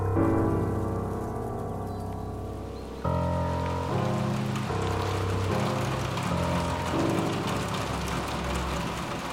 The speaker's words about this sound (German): Hoffentlich regnet's nicht durchs Dach. Nein, glaube ich nicht. Es wird hübsch trocken sein.